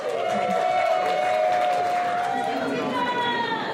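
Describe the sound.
A steady wash of crowd noise, with many voices cheering and chattering together at an even, fairly loud level, plus a sustained bright tone running through much of it.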